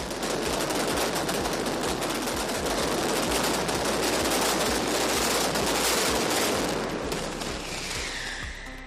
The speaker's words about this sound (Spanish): Y con el trueno final empezó a llover. Literalmente espectacular cómo retumbó la plaza del ayuntamiento durante la mascletà de este domingo, disparada por Reyes Martí, de Pirotecnia Martí.